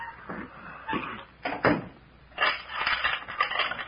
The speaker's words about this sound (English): Come on back in and shut the door.